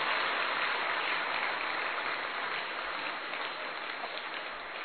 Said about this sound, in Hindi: आप सबसे जोर से दादी को ताली बजा करके स्वागत करें।